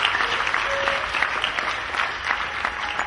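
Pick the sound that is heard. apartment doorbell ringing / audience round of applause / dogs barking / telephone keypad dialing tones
audience round of applause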